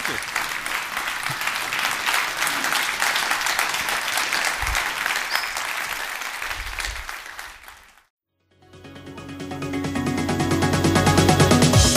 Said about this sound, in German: Dein Applaus.